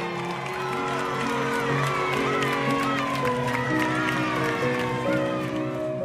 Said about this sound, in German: Während des Essens kommt plötzlich ein Zauberer auf die Bühne, die zwischen den Ständen steht. Wie ein echter Profi führt er seine Tricks vor und erntet eine Menge Applaus dafür.